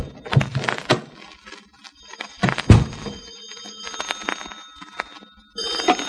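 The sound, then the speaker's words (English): A penthouse door is unlocked with keys and opened in a hurry: heavy thumps and rattling, while a telephone bell rings steadily inside the penthouse, growing louder near the end. “I could hear the phone ringing inside, and I opened the door in a hurry.”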